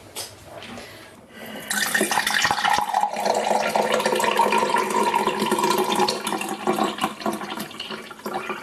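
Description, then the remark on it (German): After a quiet second or so, iced tea pours steadily into a glass, a continuous splashing gurgle with a faint tone that shifts as the glass fills, lasting to the end. “Ich habe das perfekt eingegossen.”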